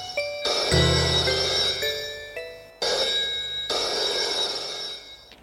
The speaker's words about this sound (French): Deux jours plus tard, le téléphone sonne.